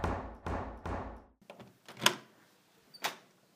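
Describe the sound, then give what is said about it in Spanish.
Someone knocks on the wooden door of a family's house one afternoon: three heavy, evenly spaced, loud knocks, followed after a pause by a couple of sharper door clunks. No one speaks. “Una tarde cualquiera, alguien golpea la puerta en la casa de la familia de Uriel.”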